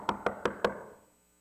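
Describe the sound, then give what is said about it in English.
Four quick, evenly spaced knocks on the wooden door of a house in Jamaica, firm, with a brief resonant decay after the last one and no voices; visitors keep knocking with no response. “They kept knocking.”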